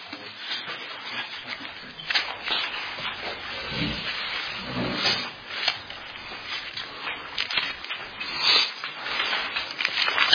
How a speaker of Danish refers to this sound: Vi er så venlige at blade om til Ruths bog, kapitel 3.